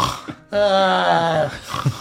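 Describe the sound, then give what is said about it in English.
A voice imitates the loud snoring of several sleepers camping in a tiny hut: one drawn-out, rasping, throaty snore lasting about a second, framed by softer breathy noises before and after. “You hear Mira Yurg, the serpents, and Kenna loudly snoring.”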